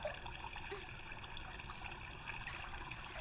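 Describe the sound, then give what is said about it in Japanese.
Hot shower water runs in a steady, even hiss with a soft splashing texture, quiet and unbroken throughout, with no voices, as someone is about to wash another person's back. “ほらほら、背中流してあげるからシャワー浴びよ。”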